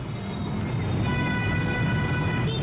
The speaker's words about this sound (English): If you closed your eyes, you would be forgiven for mistaking that ceaseless roar of engines for a waterfall in the Halong region.